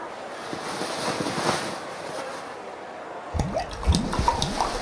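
Lighter fuel splashes and hisses steadily as it is poured out over a pair of trousers, a continuous rushing wash that turns choppier and more uneven near the end, with no voices present.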